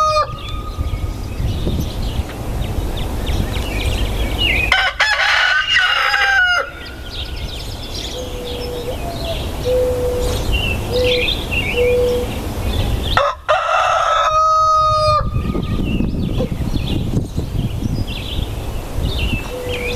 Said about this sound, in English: Our man Champ the Rooster letting us know sunrise in Clay County and East Central Alabama on this Tuesday morning, a short Tuesday.